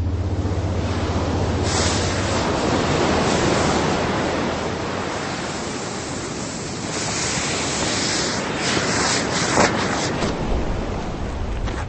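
ocean surf waves

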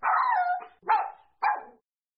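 dog barking

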